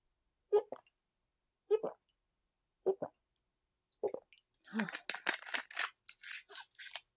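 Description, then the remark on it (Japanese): Four slow, evenly spaced swallowing gulps, followed by a breathy, fizzy rush of sound as someone finishes drinking cold sparkling water. “ちょっとすいません、喉が渇いたんで飲み物。炭酸水でございます。”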